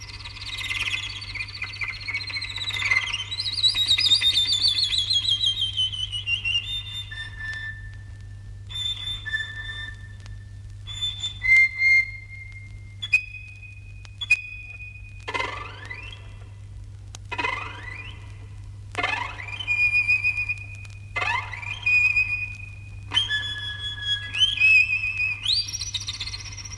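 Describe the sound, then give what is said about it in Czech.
European bee-eaters call repeatedly with short, liquid, high-pitched trills, several overlapping at times in an irregular chorus, over a steady low hum, with no talking. “Vjerovatno najljepša ptica koja se može vidjeti na Balkanu, bar što se tiče raznovrsnosti, sklada i živosti boja, svakako je obična pčelarica ili žura, Merops apiaster.”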